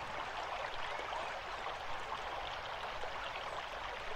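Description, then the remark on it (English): Steady water trickling over stones, a continuous bright babbling with no pauses, even in level throughout, with no voices. “Notice the sensation of your spine on the warm stones as the cool water trickles around them.”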